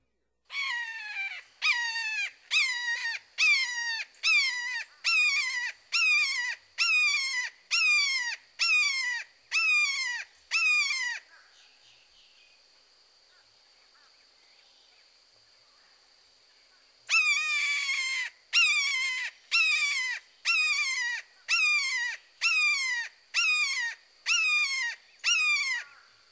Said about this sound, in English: Now listen to the red-shouldered hawk. His call is similar to the red-tailed hawk, but often consists of a repeated two-syllable, keer, keer, keer.